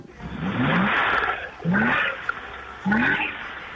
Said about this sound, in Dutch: Misschien is het leuk dat we hem heel even horen starten, die Porsche. Want dat is natuurlijk een waanzinnig geluid.